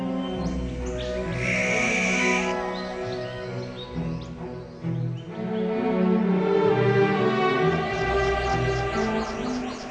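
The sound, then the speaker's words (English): A continuous wash of bird calls and song with layered, sustained tones and a brief high whistling phrase early on, fairly loud and steady throughout with no talking. “Birds communicate through cries, songs, and body language.”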